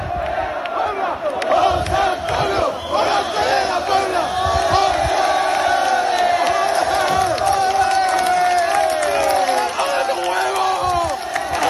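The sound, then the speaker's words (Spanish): A large crowd of young people at the hotel where Morante de la Puebla was staying cheers and chants loudly and continuously, acclaiming him after his second puerta grande at Las Ventas, voices overlapping in a dense, energetic roar with rising shouts throughout. “Una multitud de jóvenes aclamaban ayer en el hotel en el que se hospedaba Morante, le aclamaban después de su segunda puerta grande en Las Ventas, y él salió al balcón a saludar a todos estos jóvenes.”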